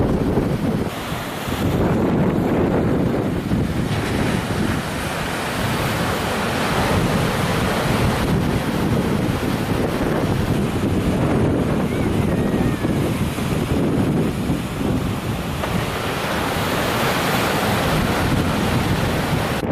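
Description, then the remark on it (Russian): Steady wash of wind-driven waves on open water, heard while walking along the shore, with gusty wind buffeting the microphone throughout, a continuous loud roar that swells and eases without pause. “Волны какие-то пошли, смотри, как они ветром, вот видно, как там несет.”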